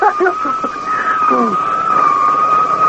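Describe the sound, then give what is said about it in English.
A police motorcycle siren wails as a motorcycle policeman comes down the road, a long, steady, slightly wavering tone that holds throughout, while a voice speaks briefly over its opening moments. “Now, what's this here coming down the road? Looks like a motorcycle cop.”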